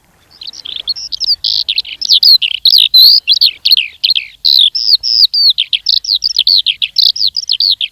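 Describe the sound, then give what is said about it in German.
A Eurasian skylark sings a long, continuous stream of rapid, high warbling and trilling notes, loud, with no pauses and no voices. “Und so ein Vogel ist zum Beispiel die Feldlerche. Die klingt so.”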